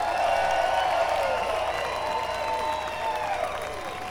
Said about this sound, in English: That's all right, keep applauding. He don't come out unless he gets a lot of applause, and he'll be out. Now it's gonna take more than that to get him out here.